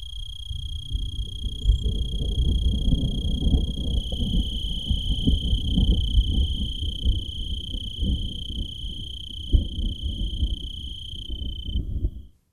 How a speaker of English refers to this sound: And this is distant thunder. All right. Distant thunder with a cricket. Very simple. Just listen.